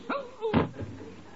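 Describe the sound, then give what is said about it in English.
A single heavy punch lands with a sharp thud that knocks a man out, just after a brief grunting voice, then fades into a low rumble of background noise. “You knocked out”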